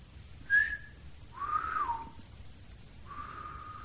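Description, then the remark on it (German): Several people whistle while holding folded triangles above their heads; short whistles sound one after another rather than together: a brief high toot, a longer falling whistle, then a steady held note, over faint background noise and no talking. “Ihr müsst alle gleichzeitig pfeifen.”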